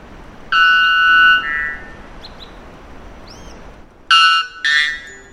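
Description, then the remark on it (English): A male white bellbird, recorded by researchers from Brazil, sings two loud, metallic calls, the loudest bird call ever documented, each a harsh, ringing tone dropping into a second lower blast, with a few faint chirps in the pause between them. “This unpleasant noise, or rather song, of the bellbird is the loudest ever documented bird call, when the volume isn't turned down for podcast purposes.”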